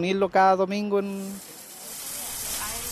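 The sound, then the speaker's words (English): Meat sizzles on a grill by the sideline at a Sunday Mapuche gathering in Santiago, a steady crackling hiss that fills the second half after a voice briefly sounds at the start, moderately loud. “Smells of smoke and sizzling meat blow towards a splintering picnic table on the sideline.”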